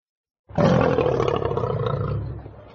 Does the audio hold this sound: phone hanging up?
no